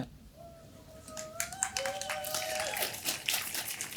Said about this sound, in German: Das ist wirklich auch super schön mit euch als Live-Publikum. Bitte applaudiert.